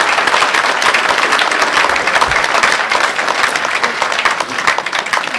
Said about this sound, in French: Et on peut l'applaudir de manière très forte.